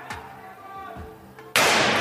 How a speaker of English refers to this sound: Apart from when Elon Musk does it on stage and he whacks the car with a sledgehammer and it does break. Oh, no. So when they... That's the thing, right? On the side of the car, the panel, completely fine. This is how that sounded.